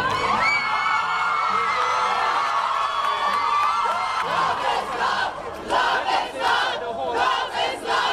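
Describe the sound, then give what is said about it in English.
A large outdoor crowd on the steps of the Hall of Justice in Port of Spain, Trinidad and Tobago, roars and cheers continuously on learning the High Court struck down the anti-gay sodomy laws, with overlapping shouts and whoops rising in bursts toward the end, loud and dense throughout. “Crowds on the steps of the Hall of Justice in Port of Spain, the capital city of Trinidad and Tobago, erupted in cheers on learning that the High Court had struck down the Caribbean nation's archaic anti-gay sodomy statutes.”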